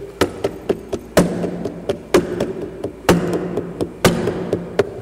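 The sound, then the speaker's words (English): Rhythmic tapping imitates tom-tom drums beating: a heavy accented thump about once a second with quicker, lighter taps in between, each strong hit leaving a low, hollow ring. No one speaks. “My wife said, those are the tom-toms. Can you hear them beating, Pastor?”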